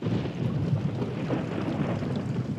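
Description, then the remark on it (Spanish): A heavy rain downpour pours down in a steady, dense roar of hiss and low rumble, unbroken from start to finish, with no voices. “¡Caramba, qué aguacero!”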